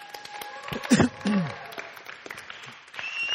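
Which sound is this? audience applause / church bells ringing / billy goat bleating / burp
audience applause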